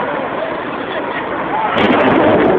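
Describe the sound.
A loud, sustained roar of a building explosion near the building's northeast corner, broad and rumbling, swelling slightly louder partway through, heard through a noisy, distorted broadcast-style recording with indistinct voices underneath.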